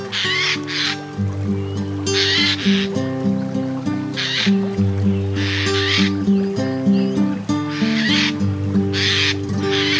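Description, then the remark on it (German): A Eurasian jay gives its harsh, rasping alarm screech, the call it makes when danger threatens, about six times at a steady pace, each call loud, over a continuous backdrop of gentle instrumental music. “Die ist vom Eichel her. Er will die Eichel. Und wenn Gefahr droht, dann tönt er so.”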